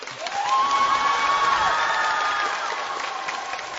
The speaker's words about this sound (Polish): I gorąco, serdecznie pozdrawiamy i dziękujemy organizatorom dzisiejszego spotkania, czyli naszym przyjaciołom z parafii Wniebowzięcia Najświętszej Maryi Panny. Z jakiej miejscowości? Zambrowie! Z jakiej? Zambrowie! Brawa dla nich!